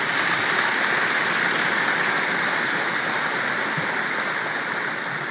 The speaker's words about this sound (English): As well as members of the Joint Chiefs, combatant commanders, and more. So let's give the Joint Chiefs and the combatant commanders a round of applause.